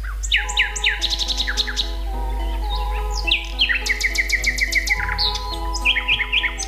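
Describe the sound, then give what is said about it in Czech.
A nightingale sings a rich, varied song of loud whistles, rapid repeated trills and sharp high chirps in quick phrases, with no voices, over a steady low hum. “Slavoji su najpoznatiji po svojoj moćnoj i lijepoj pjesmi.”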